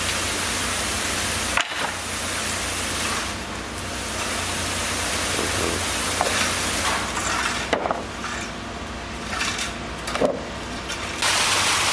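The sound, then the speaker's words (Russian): A heavy construction machine at a building site with a large basement and much concrete in Los Altos starts and rumbles steadily and loudly, its broad roaring noise filling the scene with occasional clanks and thumps, and no one speaking. “И там, конечно, более серьезная машина стояла. Вот она пошла, смотри как.”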